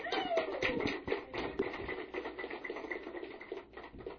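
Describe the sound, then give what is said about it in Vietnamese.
A crowd claps together in a dense, steady round of applause that keeps an even loudness for about four seconds, with no voices standing out over it. “quý vị cho một tràng pháo tay.”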